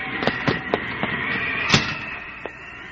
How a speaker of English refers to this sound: God, I've never seen such a storm. Why on earth did you let the children out in it? It came up so quickly, I hardly realized.